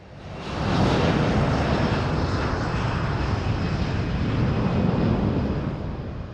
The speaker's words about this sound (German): Sie zeigt Flugzeuge, die in atemberaubender Nähe über die Karibikinsel St. Martin fliegen, kurz vor dem Strand fast zu landen scheinen